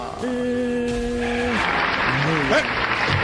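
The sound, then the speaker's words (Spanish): A sustained tone fades as a dense wash of clapping swells up, continuing steadily to the end while voices speak over it. “¿Y por qué para él si hay aplauso?”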